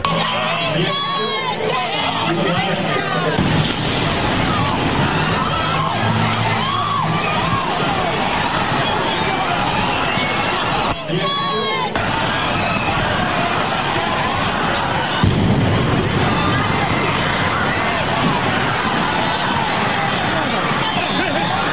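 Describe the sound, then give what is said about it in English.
Two heavy explosions go off about twelve seconds apart on a busy street near 671 Boylston Street by the Boston Marathon in Boston. Each one cuts through a constant roar of crowd noise and chatter, followed by shouting and a rush of movement. “But this is a rebroadcast of what we're hearing are two explosions.”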